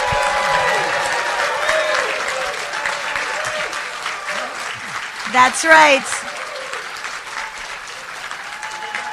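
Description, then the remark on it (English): A full banquet room of people at the Christ the King Conference in Dubuque, Iowa, applauding steadily for Our Lady of Good Success Radio Network for several seconds, a dense wash of clapping with a few shouts and cheers rising above it, then a man's voice speaking briefly near the middle. “One more time, big applause.”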